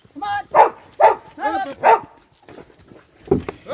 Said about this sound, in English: Do you think you should wear earmuffs, Irene, with a dog like that barking?